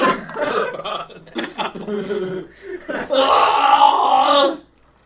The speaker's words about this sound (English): you burp out an entire apple, and it's like, you all right, man?